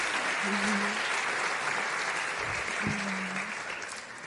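Steady audience applause fills the room, a dense wash of many hands clapping that stays loud throughout and tapers slightly at the end, with a couple of brief tonal notes beneath.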